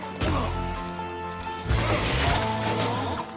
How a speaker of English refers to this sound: Booth looks away as Chris smashes the windscreen with the bumper.